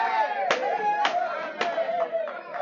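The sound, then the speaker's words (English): An excited courtroom crowd erupts in loud, overlapping murmurs and raised voices after a jury returns a not guilty verdict in a murder trial, with three sharp raps cutting through the clamor at roughly half-second intervals before the commotion continues steadily. “As the crowd left the courtroom,”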